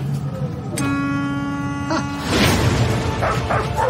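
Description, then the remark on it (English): A dog barks in a few rough, noisy bursts, preceded by a steady, buzzing, high-pitched whine that holds for about a second. The barks are moderately loud over a constant low background rumble. “I learned to talk dog. I don't think it likes me.”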